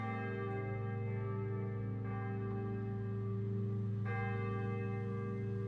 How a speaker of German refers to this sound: Glocken läuten die Weihnacht ein.